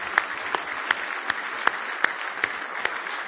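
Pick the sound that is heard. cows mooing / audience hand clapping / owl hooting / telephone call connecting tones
audience hand clapping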